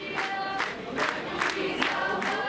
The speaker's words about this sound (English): Many Germans, especially in typically conservative Bavaria, crammed train stations to welcome the new arrivals with song and applause.